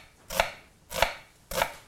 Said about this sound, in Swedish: Nu skivar jag upp lite rödlök här.